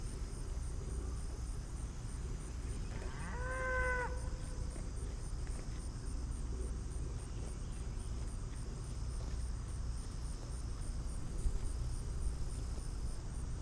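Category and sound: animal, cattle mooing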